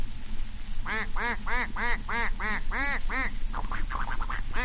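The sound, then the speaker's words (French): A duck quacks in a quick, steady series of about eight loud, nasal calls, then trails off into a few softer, scattered quacks over a low, constant background hum. “Le canard.”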